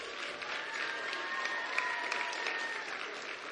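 An audience claps in a steady round of applause, a dense wash of many hands sustained at an even, moderate level throughout, with faint cheering tones threaded through the clatter.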